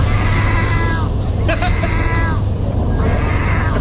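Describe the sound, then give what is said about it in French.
Seagulls in Turkey give drawn-out, mewing calls that sound much like cats, two long wails a few seconds apart over a steady low rumble of background noise, with a brief clatter between them. “en Turquie, les amis, véritable histoire aujourd'hui, on peut croiser des mouettes qui miaulent.”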